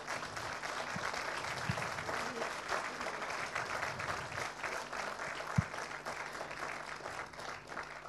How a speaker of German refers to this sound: Na, dürft ihr mal klatschen.